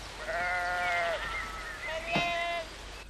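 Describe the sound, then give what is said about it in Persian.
Two drawn-out, wavering bleats from sheep that have gone up a hill, one after another with a short pause between, clear against a quiet background, with a brief knock during the second call. “گوسفندا رفتن بالای تپه.”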